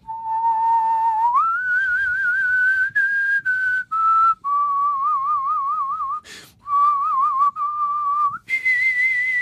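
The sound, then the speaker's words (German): Someone whistles a slow melody from the film Once Upon a Time in the West, not its main theme but the second melody: long, wavering held notes with vibrato, stepping up and down in pitch, separated by short pauses, with no talking. “Ich spiel mir das Lied vom Tod. Also, das ist natürlich nicht die Hauptmelodie, sondern Punkt diese zweite.”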